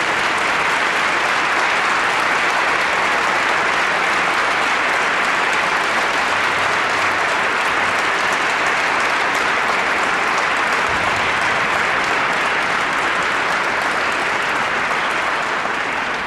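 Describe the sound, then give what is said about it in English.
A large audience at an event honoring King claps steadily and loudly for the people standing on the dais, a dense, unbroken wash of applause for the full length with no voices rising above it. “I welcome them today, and I ask them to stand, and I want you to give them a big King round of applause, because they're here because they want to honor King as well.”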